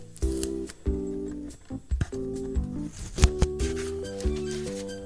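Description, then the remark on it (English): Crisp paper crinkling and rustling as a rolled-up, taped-shut piece of paper taken from a tube is unrolled, with sharp crackles and short tearing bursts over steady background music. “I'm unrolling it.”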